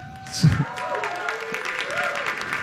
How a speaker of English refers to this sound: somebody just booed me.